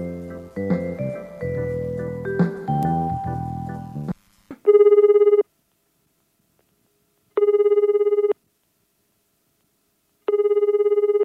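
A phone rings three times in steady, evenly spaced electronic bursts with silence between, following a few seconds of tonal music at the start. The ringing is close and clear.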